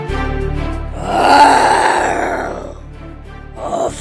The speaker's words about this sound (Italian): Sapeva che il Minotauro era vicino perché sentiva il suo respiro pesante. All'improvviso un forte muggito lo fece sobbalzare.